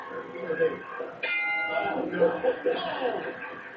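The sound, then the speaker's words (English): A ring bell is struck once with a hammer next to Laurinaitis' ears, giving a sharp metallic clang that rings on and slowly fades beneath ongoing voices and background noise. “The gimmick now is that he's taking the ring bell and hitting it with the hammer next to Laurinaitis' ears, because that would ring and hurt.”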